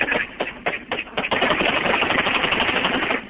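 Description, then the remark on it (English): Rapid bursts of gunfire crackle in quick succession, a dense, harsh clatter of shots that blurs into a continuous roar toward the end, with no voices. Recorded on a mobile phone camera as Iraqi police fight militants in a battle near the Shiite holy city of Najaf, Iraq, joined by the Iraqi army and U.S. forces. “Shaky images and sound from a mobile phone camera show Iraqi police in a furious fight.”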